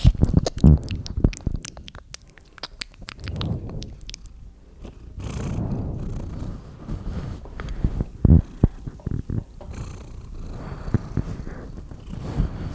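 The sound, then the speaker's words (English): A female cat, mic'd up, purrs right up against the microphone as people try to get her to purr, a steady low rumbling drone with no talking, broken by sharp bumps and rustles from handling. “we're just trying to get Tai Tai to purr”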